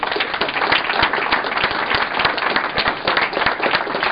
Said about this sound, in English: And I think these guys deserve a huge round of applause for what they've done.